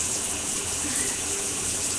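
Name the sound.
shower water running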